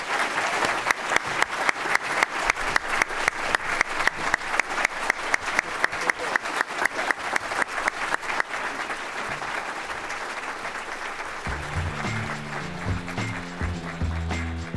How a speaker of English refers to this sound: Ladies and gentlemen, campaigning is tough and it's long. So please, let's give these two gentlemen a huge round of applause.